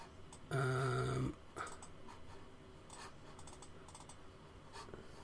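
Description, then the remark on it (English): Irregular clicks of someone typing on a computer keyboard, steady, following a brief loud buzzing tone at the start. No one speaks. “Keyboard's over there, innit?”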